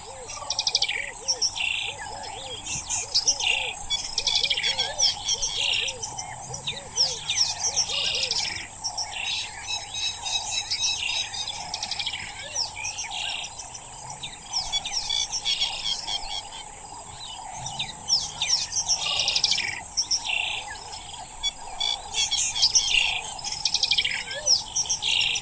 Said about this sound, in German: Noch bei Dunkelheit fahren wir in die Grassavanne hinein und erleben dort das Erwachen des Tages. Das neben der wunderschönen Lichtstimmung insbesondere von einem opulenten Vogelkonzert bestimmt wird.